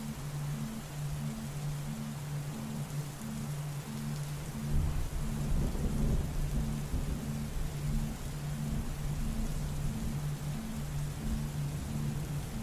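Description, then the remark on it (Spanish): Steady, dense rain hisses throughout, with a deep thunder rumble swelling up around the middle and slowly fading. A low, pulsing hum sits beneath it all, and nobody speaks. “En el reino de la naturaleza, cada tormenta es necesaria, es perfecta.”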